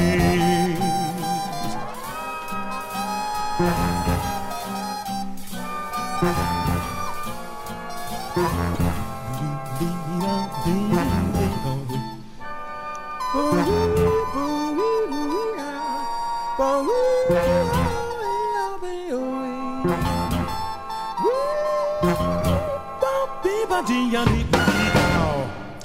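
Full big band jazz plays with electric guitar lines weaving through brassy ensemble chords, steady and loud throughout, with no voices.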